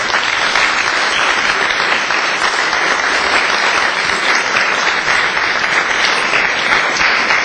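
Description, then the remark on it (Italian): Steady, loud audience applause for Manuel Roberto Guido of the Italian Ministry for Cultural Heritage, Activities and Tourism, a dense wash of many hands clapping at an even level with no voices rising above it. “Il rapporto con il Ministero per i beni e le attività culturali e il turismo è stato spesso rappresentato da Manuel Roberto Guido, a cui farei un applauso.”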